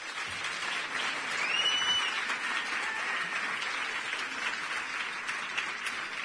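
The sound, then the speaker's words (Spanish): Steady applause from a concert audience, a dense wash of many hands clapping at an even, sustained level for several seconds, with a brief whistle near the start and no talking, for a musician joining to accompany the next song. “Bueno, es verdad que para nosotros, bueno, me va a acompañar para esta canción mi hermano Javier Bergia, para que pida un aplauso también.”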